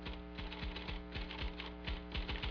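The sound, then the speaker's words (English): Steady, fairly rapid typewriter keystrokes clack in an uneven rhythm as Mrs. Breckenridge types a letter for Dr. Wheaton in the headmaster's office, each strike sharp and percussive, with no voices present. “As James and Zach leave the headmaster's office, Mrs. Breckenridge is typing a letter for Dr. Wheaton.”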